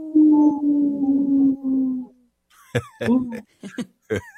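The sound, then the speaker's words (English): A long, wavering wolf-like howl holds for about two seconds, then a quick series of short, sharp yips and howl bursts follows, loud, seemingly voices imitating wolves. “we like to bring awareness to our Minnesota wolf population. Say no to the hunts. How? Ow! Ow! Ow!”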